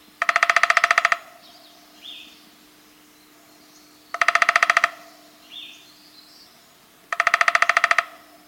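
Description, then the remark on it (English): A downy woodpecker drums three times, each burst a rapid, even roll about a second long, loud, spaced a few seconds apart with faint bird calls in the gaps. “More likely, you'll hear the drumming of the downy.”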